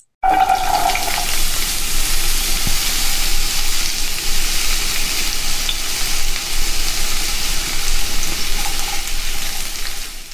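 A steady, loud sizzle like food frying in a hot pan, crackling and hissing continuously for about ten seconds with no voices.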